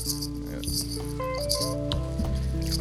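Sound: ice rattling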